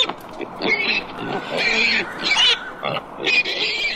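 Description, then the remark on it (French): Several pigs grunt and oink, with sharp squeals breaking through in bursts over a continuous, crowded background of snorting. “c'est les mamans, cochons, et le verra, c'est le papa”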